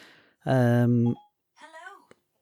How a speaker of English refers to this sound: Jesus, my phone is talking to me. What's that about?